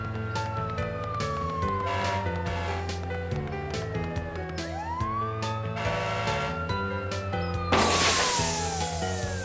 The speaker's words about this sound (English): Okay, everyone, stand back. Keep a safe distance. Here comes the fire truck!